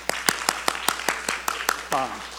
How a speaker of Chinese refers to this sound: 各位母親節快樂，好唔好？喺我哋中間嘅媽媽舉一舉手，我哋拍手掌，多謝你哋，好嘛？